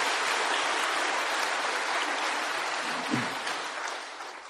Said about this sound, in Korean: 단기 선교 사역자들에게 힘찬 박수로 격려하도록 하겠습니다.